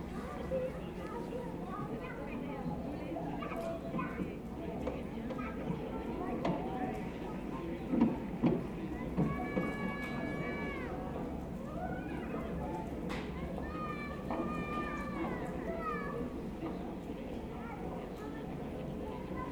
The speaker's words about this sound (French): on va écouter ce qui se passe dans le cœur d'îlot. Et en fait, les sons domestiques, on les entend un peu loin. C'est une télé qui est allumée